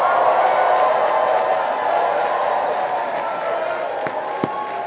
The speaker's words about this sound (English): And everyone cheer him on.